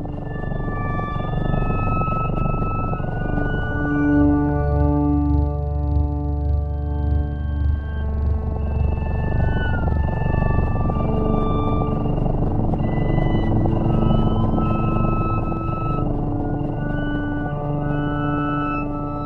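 Music composed for cats: sustained, sliding tones and gliding high notes over a steady low drone, playing continuously and fairly loud, with no voices.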